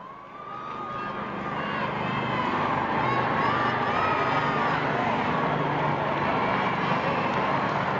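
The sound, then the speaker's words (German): A large crowd cheers as the Pope crosses an inner courtyard to meet waiting nuns during World Youth Day in Madrid, the roar swelling over the first few seconds and then holding steady as a dense, continuous wash of voices and shouts. “Der Jubel schwillt an, wenn der Heilige Vater jetzt den Innenhof überquert und zu den Ordensschwestern geht, die nun schon lange auf ihn warten.”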